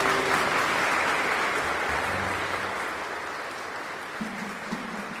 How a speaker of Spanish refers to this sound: El cura le da la bienvenida a todos y les pide que se den un aplauso por estar de nuevo juntos, reunidos allí.